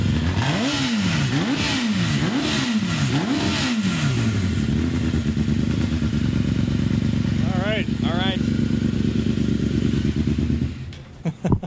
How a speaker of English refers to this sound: So you're going to fire up this Tiger. Should I rev it up? Yeah. Let's. If you could maybe give us a few revs.